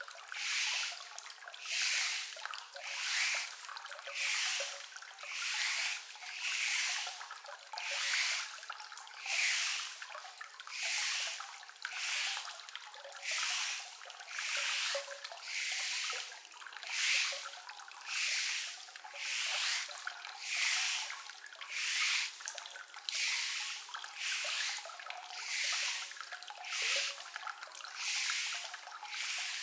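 Wet squishing of fingers working through thick shampoo lather on a scalp during a scalp massage, in a steady rhythmic pulse of bubbly crackles repeating about once a second, with no talking.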